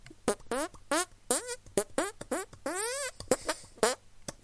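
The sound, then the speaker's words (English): A rapid run of squelchy hand fart noises, around ten loud bursts with swooping, shifting pitch, played in a rough rhythm like a tune, with no talking over them. “my hand farting music.”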